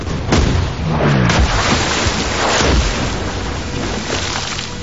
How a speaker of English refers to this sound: Enemy cannon fire hits the water between the raft and the ship.